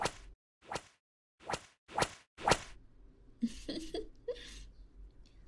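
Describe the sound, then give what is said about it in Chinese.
Five sharp whip lashes across a person's back crack in quick, fairly even succession, each a brief swishing snap, followed by muffled, strained vocal cries with no clear speech. “那就先用鞭子在你背上抽一下。”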